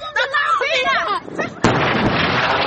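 Raised, wailing voices give way to a sudden loud explosion from Israeli airstrikes on the Gaza Strip, its sharp blast followed by a sustained roar of rumbling, crackling noise that fills the rest of the moment.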